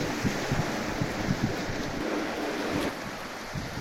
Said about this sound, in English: I put them in here and let the waves and stuff work on them, the same way as putting the clay and paper together and letting it work on its own.